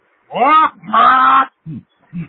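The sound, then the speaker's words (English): A pet parrot named Polly squawks: two loud, harsh, drawn-out calls followed by two short, quieter, lower squawks, with no talking around them. “I must warn you, however, that Polly, my parrot, likes to watch.”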